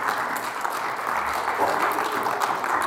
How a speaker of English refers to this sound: Yeah, you can clap for him if you want.